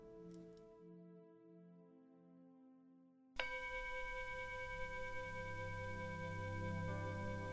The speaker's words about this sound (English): hear the sound of the bell, gently opening your eyes.